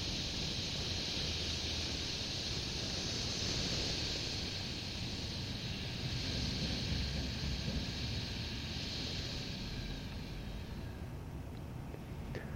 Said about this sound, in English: Now to expedite this, let's try the hiss. Hiss.